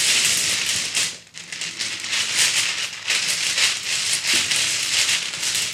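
Dice are shaken and rattled together in a dense, continuous clatter of sharp clicks, pausing briefly after the first second, then churning on in uneven bursts with no voices.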